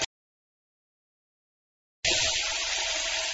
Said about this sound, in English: Let's make tea. First, turn on the tap.